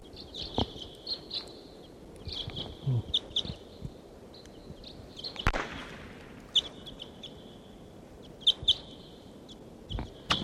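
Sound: bird calls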